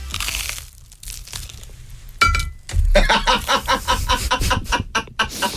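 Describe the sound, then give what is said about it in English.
Crunchy bites of buttered toasted bread: after a quiet start, loud crisp crackles come in a quick, uneven series of chews that continues to the end, with no talking. “Listen to the crunch.”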